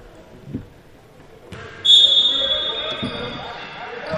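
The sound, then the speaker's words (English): A basketball is slapped and bounced by Noah Thomason as he inbounds during a game against Cinco Ranch, a few sharp thuds spaced apart, with a high squeak and steady crowd murmur behind them. “Thomason slaps the basketball, looking for somebody.”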